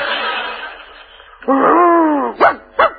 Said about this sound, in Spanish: Guau, guau. Ese era ladrido puro, nada más. No tenía sentido. Ni significado ninguno, ¿no es cierto?